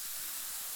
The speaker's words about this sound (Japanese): じゃあ、次は反対側だよ。同じように流すよ。シュワシュワ